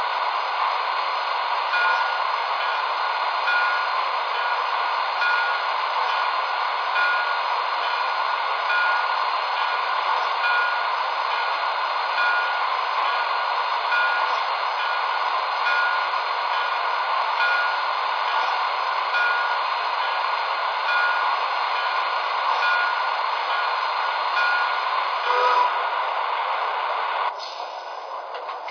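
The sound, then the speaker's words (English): Passenger train number 11 idles on track one at the Allentown station platform, a steady, unbroken mechanical rumble and hiss filling the whole stretch, shifting slightly and dropping a little near the end. No voices. “New York, on track one, train number 11, the Star.”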